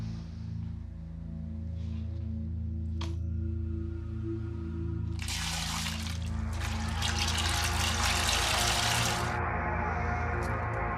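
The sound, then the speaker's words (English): River water splashes and churns loudly for several seconds midway through as a woman who cannot swim is in the river. It is a rushing, broken burst over a constant low droning hum, with quieter trickling before and after. “Shouldn't have gone in the river if she doesn't know how to swim.”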